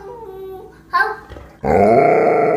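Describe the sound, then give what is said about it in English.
An Alaskan Malamute grunts and growls in short vocal bursts, then breaks into a louder, sustained grumbling growl that carries to the end, like it's talking back in a conversation with a young boy of about two. “we close with a young boy. He looks about to be 2 years old, having a conversation with his Alaskan Malamute.”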